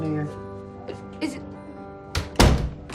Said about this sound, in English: He starts closing the door.